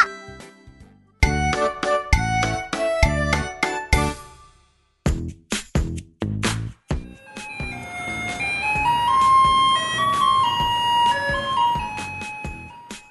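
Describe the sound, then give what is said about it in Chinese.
A garbage truck's tinkling electronic melody plays loudly from a distance, its bright jingle notes stepping along in a steady tune, then continuing with a wash of rumbling street noise beneath. “远远传来熟悉的音乐声，小克听到后开心大喊： 爸爸，爸爸，垃圾车来了！”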